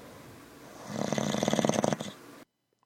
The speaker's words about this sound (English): Wow, dude. You need to see somebody about that. For snores lasting longer than 4 hours, see a doctor.